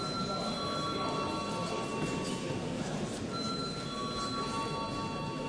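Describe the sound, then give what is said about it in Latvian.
A loud electric parliament bell rings before a vote on a proposal, continuously and steadily for several seconds, a harsh metallic clatter with a sustained tone, heard on its own with no voices. “Lūdzu zvanu.”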